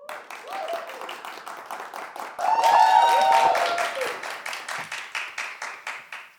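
Audience applause with steady, fairly rhythmic clapping throughout, swelling louder midway with a burst of cheering and whistles, then settling back into even clapping.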